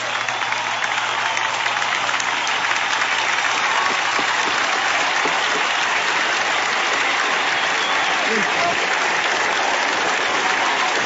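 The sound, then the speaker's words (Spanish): Sustained, dense applause from a large crowd in a convention center as FARC leader Rodrigo Londoño speaks of forgiveness to the victims of the conflict, a steady roar of many hands clapping at an even, loud level without pause. “Aplauso cerrado en el centro de convenciones en el momento en que Rodrigo Londoño, jefe de las FARC, habla del perdón, finalmente, por el dolor que hubieran podido causar.”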